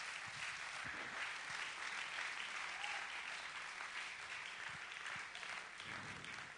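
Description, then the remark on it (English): A crowd gives a hand clap to the Lord as the musicians come, clapping steadily for several seconds, a dense, even wash of many hands with no pauses or talking. “Let's give a hand clap to the Lord as the musicians come.”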